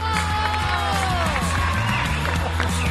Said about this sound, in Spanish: porque le vamos a dar un aplauso a Francis Tafrilla.